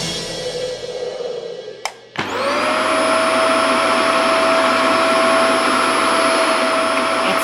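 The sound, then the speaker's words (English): The GZM power vacuum, a loud vacuum cleaner, starts with a sharp click and rising whine, then roars steadily with a high-pitched motor tone, after a quieter stretch of lower motor hum; it is activated to dry rain damage in a studio. “Activating the GZM power vacuum.”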